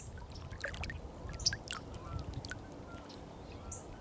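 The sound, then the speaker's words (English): Soft, steady water laps and washes at a lake a five-minute walk from a city block of houses, with a low rumbling undertone, while birds chirp in brief, scattered high calls above it. “It's one of my favorite sounds in the world, the sound of water.”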